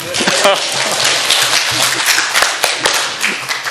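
A crowd claps steadily and loudly for a few seconds, a dense crackle of many overlapping hand claps with a few sharper individual claps standing out.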